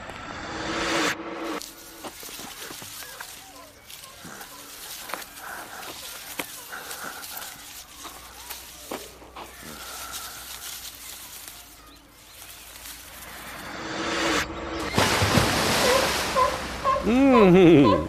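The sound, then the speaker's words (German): Seals bark and honk repeatedly amid splashing water as they are being fed at a zoo, with a murmur of voices in the background; the calls grow louder and more drawn-out near the end. “Die Seehunde werden gerade gefüttert.”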